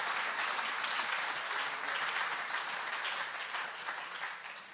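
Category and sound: crowd, audience applauding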